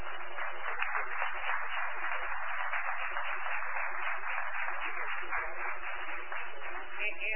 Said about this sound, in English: Round of applause for our professional photographers.